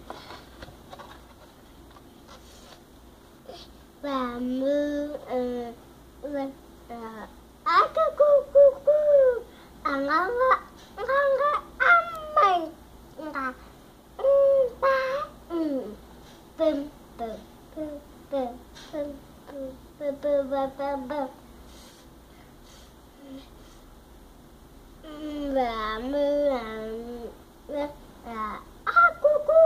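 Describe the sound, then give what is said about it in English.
A string of farm animal and bird calls, apparently voiced by people imitating them: wavering, bleating cries in quick bursts, moderately loud, with short pauses between. “With a neigh and a moo and a cock-a-doodle-doo”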